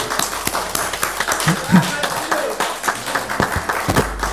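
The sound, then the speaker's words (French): A gathering applauds to thank someone for being present, with steady, dense clapping that fills the whole stretch and a few voices murmuring underneath the crowd noise. “Hein, on l'applaudit pour le remercier d'être là.”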